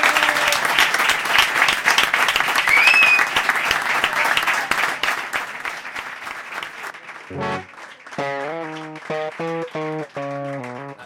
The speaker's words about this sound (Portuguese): ¡Fuerte aplauso! ¡Bravo!